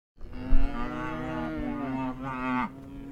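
One of Alvin Lee's hungry cows lets out a long, loud, drawn-out moo on a cold February afternoon, its pitch wavering and rising toward the end, with soft background noise and no talking.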